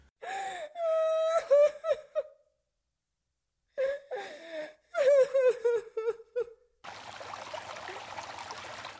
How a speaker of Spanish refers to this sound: Llora sin parar, sus lágrimas se mezclan con el agua sucia del río. Yo la abrazo tratando de consolarla, pero ella no entiende.